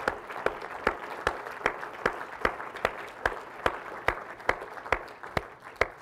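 An audience applauds in a dense, steady wash of clapping, with one crisp, louder clap standing out in an even rhythm about twice a second for the full six seconds.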